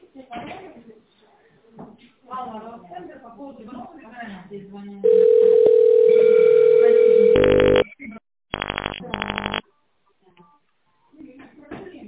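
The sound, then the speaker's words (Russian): A telephone ringback tone on hold after calling the company Softcompany: after an automated voice greets the caller and asks to dial an employee's extension or wait for the secretary, a loud steady electronic hum runs for about two and a half seconds, then a few harsh buzzing bursts follow before talking resumes. “Наберите добавочный номер сотрудника или дождитесь ответа секретаря.”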